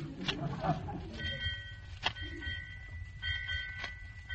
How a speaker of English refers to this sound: What's the bell ringing for, McGee? That's the time, Molly. 8 o'clock.